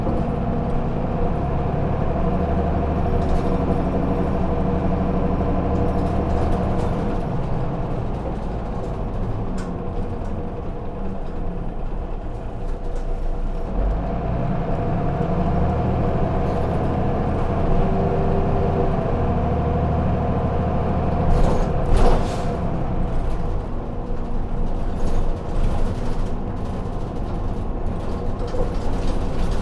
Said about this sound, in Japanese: 次は茨城間、茨城間、お降りの方はお知らせ願います。運賃が変わりますのでご注意ください。